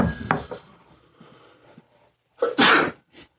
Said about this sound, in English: Okay. That just went right up my nose. I'm going to sneeze.